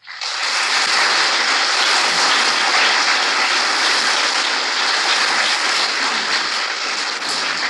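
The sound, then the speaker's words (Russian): Sustained applause from a large audience in a hall at a Vladimir Vysotsky concert, a dense, steady wash of many hands clapping that starts abruptly and holds at a loud, even level throughout, with no voices standing out. “Вы могли бы даже и не аплодировать, я бы понял, понравилось или нет.”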